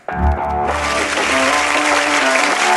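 A crowd bursts into loud, sustained applause, a dense wash of clapping that starts abruptly and keeps going steadily, with faint musical tones sounding underneath.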